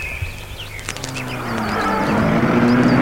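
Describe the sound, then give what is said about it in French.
A car engine turns over and revs up, its hum rising in pitch and growing louder over a few seconds, with faint birds chirping in the background. “Il l'embrasse, entre dans sa voiture et la met en route.”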